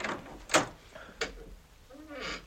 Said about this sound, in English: The key doesn't always fit the lock. You may open the door.